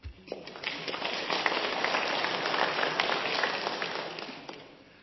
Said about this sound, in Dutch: Hiervoor ontzettend bedankt. Graag een applaus.